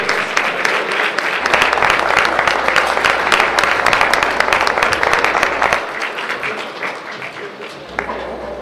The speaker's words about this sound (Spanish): Agradecemos su visita a Jalisco, la esperamos pronto nuevamente y le brindamos un fuerte aplauso para despedirla.